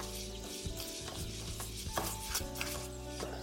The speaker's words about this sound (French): Je prépare mon pinceau et je vais badigeonner ma feuille de pâte philo avec l'huile d'olive.